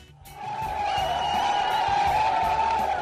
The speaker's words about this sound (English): These are crowds of people who were cheering Indian commandos outside the Nariman House Jewish Cultural Center, home of the Chabad de Lubavitcher sect in Mumbai, celebrating what looked like, at that point, the end of the hostage crisis there.